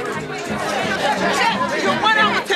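A dense crowd of reporters in the Chicago airport chattering at once as they greet the Cubs baseball team, many overlapping voices forming a steady, loud babble with no single speaker standing out.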